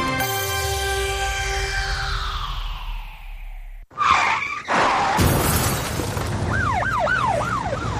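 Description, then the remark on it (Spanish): A traffic accident car crash sound effect in a radio advert for the law firm Corbacho Abogados: a long, loud screech of tires gliding downward in pitch, then a violent smash with shattering glass and debris, followed by a wailing siren rising in the background. “¿Ha sufrido un accidente de tráfico?”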